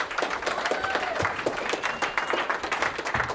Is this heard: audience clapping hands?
yes